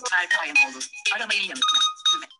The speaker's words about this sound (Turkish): Bakalım çalacak mı telefonu? Bekliyoruz.